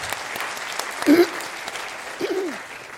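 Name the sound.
audience applause welcoming speakers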